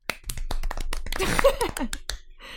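Scattered, irregular hand claps in short sharp bursts, like a small group applauding briefly for the second-place finisher of a contest, with a voice speaking or laughing partway through before the clapping trails off.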